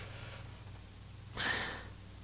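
stifled yawn

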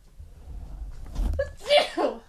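sneeze

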